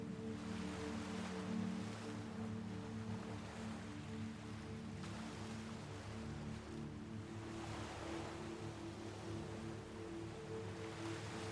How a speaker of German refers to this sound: Du kannst dem Meer lauschen. Hör sein beruhigendes Rauschen. Wie er Welle für Welle den Strand glättet.